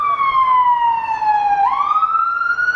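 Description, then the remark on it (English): A fire department truck's siren wails loudly as the truck rushes by, its tone sliding down and then sweeping back up as it passes, over a steady rumble of traffic. “And we pause briefly while a fire department truck rushes”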